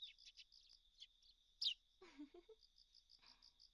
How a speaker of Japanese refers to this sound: 鳥たちもあんなに楽しそうに鳴いています。